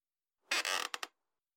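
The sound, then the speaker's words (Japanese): A chair creaks as it is reclined to change a customer's position for ear cleaning: one drawn-out creak followed by two quick, sharp creaks, then silence. No one speaks. “では、椅子を倒して、お客様の体勢を変えますね。”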